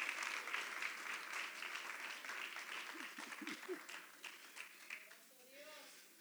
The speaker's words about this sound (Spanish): Denle un fuerte aplauso a Cristo, hermano. Give the Lord a clap offering.